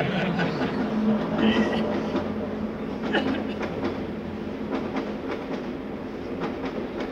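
A crowded passenger train rattles steadily along the tracks, a continuous loud rumble broken by irregular metallic clacks and knocks, with a low droning hum underneath and faint murmuring voices in the background.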